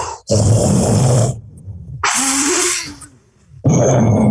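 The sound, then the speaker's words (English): A person imitates the threat display of a Gaboon viper inflating itself with air, with three loud, long breathy hisses and rasping exhales, each lasting over a second, separated by short pauses, like air rushing in and out of balloons. “So it sounds like a bunch of big balloons blowing up and deflating, and it's very frightening.”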